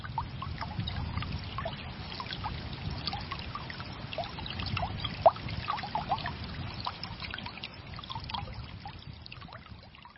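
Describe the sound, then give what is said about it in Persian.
Steady rain patters down in a dense wash of tiny droplet taps over a low, continuous rumble, with one slightly sharper drip standing out midway; no voices. “امیدواریم تو شهر و دیار شما همین بارون رحمت خدا شروع به باریدن کرده باشه و به اندازه دونه های بارون انشاءالله شامل حال رحمت خداوند متعال بشید.”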